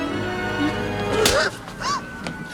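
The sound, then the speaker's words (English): A single sharp, crisp slap cracks out loudly midway over a steady background hum, followed by a couple of brief, squeaky vocal sounds; a woman wearing glasses slaps a man after he kisses her. “She slaps him.”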